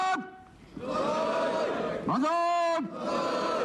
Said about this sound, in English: Today they're cheering the name of Fukuoka.